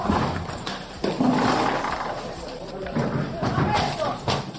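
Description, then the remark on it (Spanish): Spanish National Police officers in Zaragoza break down the door of an apartment used as a brothel, with a series of heavy, irregular thuds and cracks landing over a steady background of voices shouting "Policía!" “Este era el momento en el que los agentes tiraban abajo la puerta de uno de los pisos convertidos en prostíbulos donde se explotaba sexualmente a mujeres vulnerables.”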